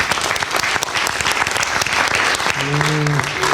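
A crowd claps steadily in a dense, continuous burst of applause that stays loud throughout, with a brief sustained tone rising faintly through it near the end.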